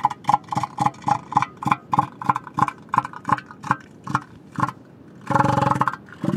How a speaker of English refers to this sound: Elephant seals are huge, gray, and blubbery. They have a big snout and a very distinctive voice.